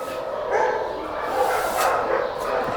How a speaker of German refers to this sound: Sind jetzt in den Gehegen, wo die kleineren Hunde sind und vorwiegend Podenkos. Aber auch ganz andere Hunde.